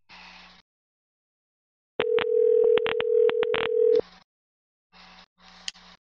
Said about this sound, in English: Rang more than last time. He's not instantly voicemail.